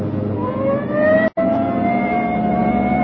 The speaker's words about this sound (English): Hit the siren. I'll get the light.